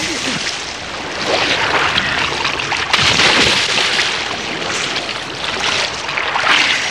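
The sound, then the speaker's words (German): Continuous splashing and sloshing of water, fairly loud, with churning bursts throughout as people bathe and splash in a bay enclosed by high rocks. “Ey, spritz nicht so.”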